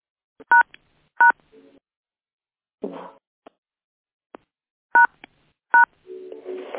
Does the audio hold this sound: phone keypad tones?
yes